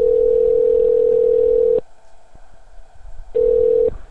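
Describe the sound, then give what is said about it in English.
A steady, loud electronic telephone tone holds for nearly two seconds, falls silent, then returns briefly as a second shorter beep, like a voicemail line's record signal. “Please leave your message after the tone.”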